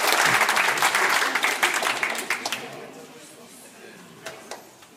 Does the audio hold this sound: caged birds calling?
no